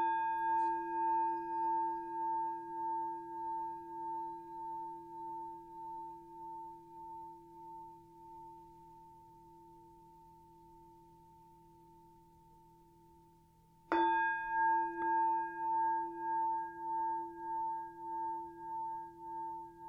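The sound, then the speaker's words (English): A meditation bell rings out at the start of a guided meditation from Thich Nhat Hanh's Blooming of a Lotus, with a sustained, shimmering tone that slowly fades, then is struck again and blooms back to full loudness, its pulsing hum wavering gently. No voices. “So if you want to take a moment to make yourself comfortable, we'll start with three sounds of the bell and the usual settling in introduction.”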